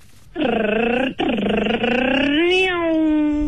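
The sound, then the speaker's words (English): A radio-contest caller imitates a car engine with the mouth in a loud, buzzy sustained hum: a short burst, a brief break, then a longer drone whose pitch climbs near the end like revving. “If you're good at making car sounds with your own mouth.”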